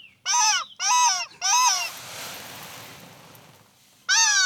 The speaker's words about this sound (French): On imagine qu'on est au bord de la mer, on entend les vagues. Alors, au bord de la mer, très souvent, il y a des oiseaux.